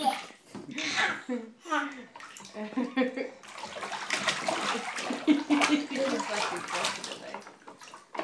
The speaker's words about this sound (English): No splashing, no splashing in the face.